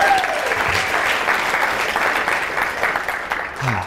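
An audience at the Financial Blogger Conference, FinCon 2011, in Schaumburg, Illinois, applauds steadily, a dense wash of many hands clapping that stays loud for the whole stretch before easing off slightly at the end.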